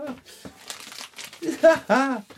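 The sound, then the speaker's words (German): Used wrapping paper taken from the wastebasket is crinkled and crumpled in short, scratchy bursts, with a person's voice briefly sounding near the end. “Und jetzt brauche ich nur noch etwas Geschenkpapier. Am besten benutztes aus dem Papierkorb.”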